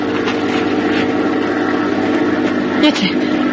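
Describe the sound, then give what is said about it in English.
A steady, droning airplane engine hums continuously at a constant level, with a low buzzing tone that neither rises nor fades, as a plane passes overhead at night. “Yes, it's a plane.”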